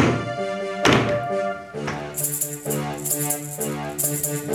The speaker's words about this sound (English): Hard to move, and we bump the glass.